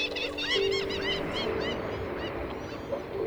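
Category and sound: bird, birds calling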